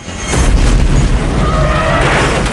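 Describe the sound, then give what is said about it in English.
A helicopter, shot at until its blades fail and it drops, explodes with a loud, deep boom that swells into a sustained roaring rumble, with a faint metallic whine rising through the noise near the end. No one speaks. “The chopper explodes.”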